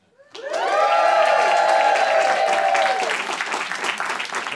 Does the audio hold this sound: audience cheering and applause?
yes